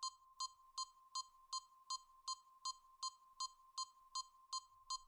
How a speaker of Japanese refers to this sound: これ、ビープ音ですよ。